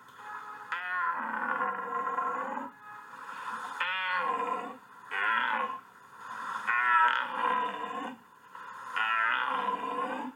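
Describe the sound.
A person imitates a red deer stag's rutting bellow: five long, loud, throaty roars in a row, each swelling and breaking off with short pauses between, alone with no talking.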